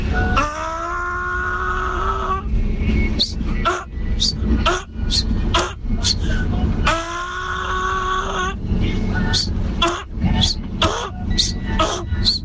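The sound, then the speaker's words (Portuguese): A man from the north, calling into a radio show, imitates a donkey braying as it goes down a hill: two long, harmonic hee-haw cries, each followed by a string of sharp, rhythmic gasping honks, loud over a steady low background rumble. “Rapaz, eu vou imitar aí um jumento que eu sou lá do norte.”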